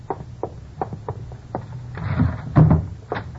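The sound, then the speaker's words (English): A wooden drawer of an old bureau in a closet is tugged open with a series of short knocks and rattles, ending in a louder scraping slide and a final thump, with no voices. “You pull out one of the drawers in the old bureau in the closet.”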